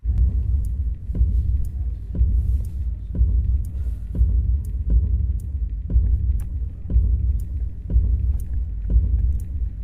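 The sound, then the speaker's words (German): A deep, steady rumble pulses in a slow, regular beat, roughly once a second, like an amplified heartbeat: a sound installation by artist and musician Keftet Erik in the empty concrete upper floor of a department store in Kassel city centre. No voices. “Durch eine eindringliche, klangliche Taktung, dem menschlichen Herzschlag nicht unähnlich, schien die karge Betonhalle den Besuchern unter die Haut zu kriechen.”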